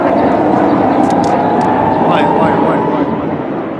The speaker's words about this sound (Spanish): En realidad, se trata de los misiles Tamir, que se elevan en el cielo a 2 veces la velocidad del sonido.